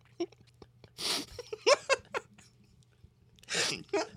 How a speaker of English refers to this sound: A little ASMR for you. Did you just chew right into that? Yeah, I did. Okay. I hope it was loud enough that they couldn't hear you.